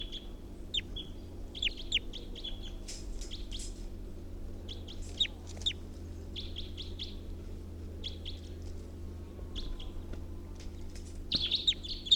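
Bird number 348 gives its alternate call: repeated high, short calls in irregular bursts, chirps and trills clustered around a sharp, piping pitch, over a steady low hum with no talking.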